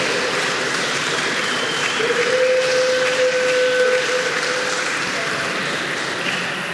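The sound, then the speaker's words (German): Steady applause from an audience welcoming a group from Hamburg (Occupy Hamburg) fills the whole stretch, a dense wash of clapping, with a brief high whistle-like tone sounding faintly through the middle. “Hamburg ist am Start, sehr schön, ein kleiner Applaus.”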